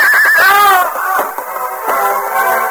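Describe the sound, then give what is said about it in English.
A horse whinnies loudly, a shrill wavering neigh that drops in pitch and breaks into shaky, sputtering snorts over about three seconds, as it stumbles after being hurriedly turned back and throws its rider. “As Hal hurriedly turned his horse and started back, the animal stumbled, throwing the young outlaw.”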